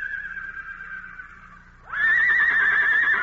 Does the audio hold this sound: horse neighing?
yes